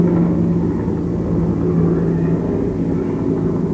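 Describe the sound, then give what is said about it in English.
A big grey helicopter with orange stripes around its middle drones overhead with a steady, heavy low rumble and a faint humming tone, holding at a constant, fairly loud level throughout with no voices. “If you listen very carefully, you can hear a helicopter flying overhead.”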